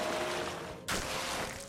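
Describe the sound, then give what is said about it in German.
Hot water pours in a steady, rushing stream, briefly surging louder partway through before continuing as a splashy hiss. No voices are heard. “Da wurde er mit heißem Wasser übergossen.”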